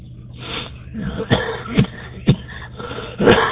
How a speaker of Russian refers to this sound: Ой, прошу прощения. Утренний кашель курительный.